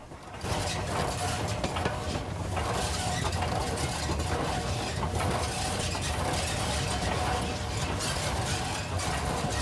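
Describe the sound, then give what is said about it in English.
The Flying Scotsman, a large three-cylinder steam locomotive of about 96 tonnes, runs steadily, the connecting rods on its wheels clanking in a rapid, regular rhythm over a loud, continuous mechanical rumble and hiss that holds for the whole stretch. “The connecting rods on the locomotive's wheels turning rhythmically as the train powers along.”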